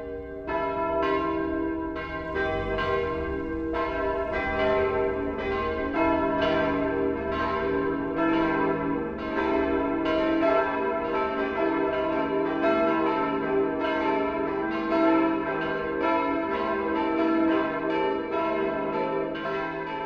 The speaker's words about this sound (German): Das Mittagsläuten kommt heute von der katholischen Pfarrkirche St. Stephanus in Stammham bei Ingolstadt.